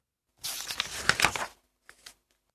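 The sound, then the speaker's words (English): Pages of a book being ripped out: one loud, harsh paper tear lasting about a second, followed by a short, fainter second tear. “Rip went the book.”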